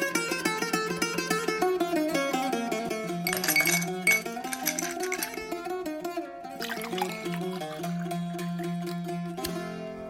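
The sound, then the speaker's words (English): Glasses clink together in a toast, with a few bright bursts of contact over a ringing, tonal background. No one talks, and the clinks are moderately loud. “Let's get a nice clink on that.”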